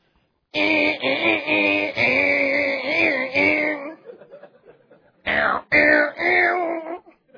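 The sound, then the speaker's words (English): A voice imitates a distorted electric guitar: a long, gritty, buzzing held tone with wavering pitch, a brief trailing fade, then two shorter, loud snarling bursts. “Do you know what a distortion sound is on a guitar?”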